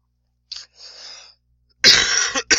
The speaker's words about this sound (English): Sorry, she'll have to take that out. A little cough going on there.